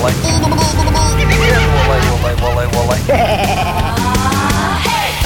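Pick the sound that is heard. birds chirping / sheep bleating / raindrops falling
sheep bleating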